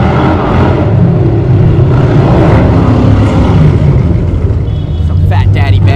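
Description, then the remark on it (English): A loud, throaty hot rod car engine rumbles steadily as it revs past for the whole stretch, a deep continuous roar, with faint indistinct voices surfacing near the end. The hot rod looks like a Hot Wheels car. “Oh, look at that hot rod, dude.”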